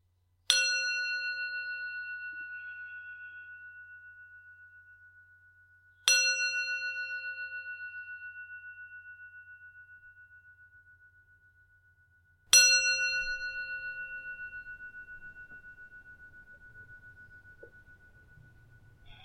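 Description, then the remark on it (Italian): A meditation bell is struck three times, about six seconds apart, each clear metallic tone ringing out and slowly fading, with no talking; it is rung to begin a guided eating meditation. “Tenetevelo davanti, visibile, non mettetelo in bocca subito appena suono la campana.”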